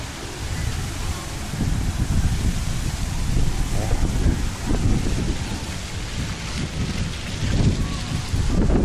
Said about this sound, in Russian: Поливает очень хорошо. Ветрено. Вы знаете, ветрено. Может быть, вы даже чувствуете по звуку камеры.